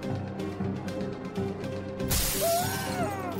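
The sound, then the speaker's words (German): A pane of glass suddenly bursts, a loud bright crash that rings out over a steady murmuring background, with a high wavering cry rising just after. “Als plötzlich ein spitzer Schrei ertönt und eine Scheibe klirrend birst, muss der Namenlose gar nicht hinsehen, um zu wissen, was gerade passiert ist.”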